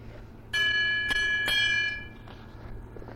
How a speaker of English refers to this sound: You'll know it's time to turn the page when you hear the bell.